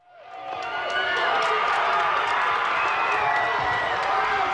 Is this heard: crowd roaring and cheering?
yes